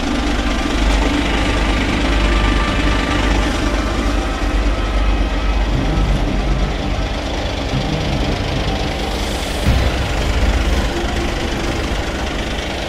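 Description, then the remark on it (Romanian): A heavy truck engine idles, a steady low rumble with faint knocking that holds for the whole stretch, with no talking over it; the truck is about to drive over a phone lying screen-down on ceramic floor tile. “Telefonul față-spate este intact și o să-l pun și cu ecranul pe gresie și camionul să calce practic pe partea din spate, da?”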